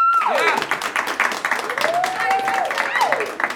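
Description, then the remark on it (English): A crowd applauds steadily and loudly throughout, with dense clapping and a few sliding whistles and cheers rising over the noise. “So, now with your applause, starting with Mike O'Connell, Christian pamphlets.”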